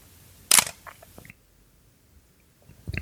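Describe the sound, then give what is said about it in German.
A sharp mechanical camera shutter snaps once with a short rattle of small clicks. This first camera is a Praktika Super DL with a rubberized-cloth focal-plane shutter, made from 1965 to about 1975. After a quiet pause, a second camera's shutter release starts right at the end, fairly loud. “So, und jetzt will ich wissen, ob ich recht gehabt habe, ob das erste der Metallvorhang und der zweite, also die zweite Auslösung der Gummivorhang war, der Gummituchvorhang.”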